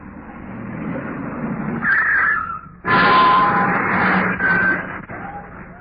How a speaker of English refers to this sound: I think this is their car now, sir.